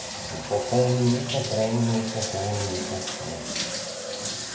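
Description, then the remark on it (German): Steady rushing of hot shower water pouring continuously, with a low droning hum layered under the spray during the first half before the hiss carries on alone. “Einfach mal duschen.”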